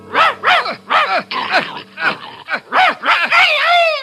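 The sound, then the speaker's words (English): A dog, Crab, led on stage by Launce in a Shakespeare scene, barks in a quick, steady series of about eight sharp yaps, loud, with the last bark stretching into a longer whining cry. “The stage direction, enter Launce, leading a dog.”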